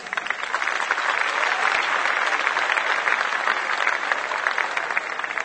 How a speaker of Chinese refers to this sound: 这位奥运冠军李戴尔呢，他也很年轻，他才22岁，他要跟你们分享耶稣基督对他的意义。所要讲的题目是当趁着年幼纪念造你的主。好，我们掌声欢迎他。